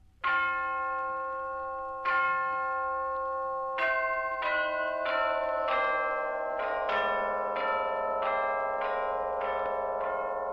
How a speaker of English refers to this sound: It was Sunday morning, and the church bells began to ring.